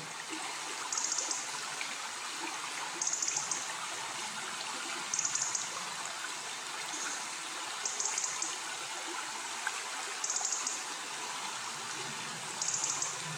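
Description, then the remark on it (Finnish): Steady, rushing water noise of a babbling stream and roaring rapids, continuous, with faint high-pitched bursts recurring every couple of seconds above it. No one speaks. “ja sillä tavalla mä oon kerännyt myös ääniä, että mä oon äänittänyt kosken pauhua ja sitten veden solinaa ja veden liplatusta ja näitä niin kuin äänitteitä käyttänyt, sit miksannut tuohon elokuvaan.”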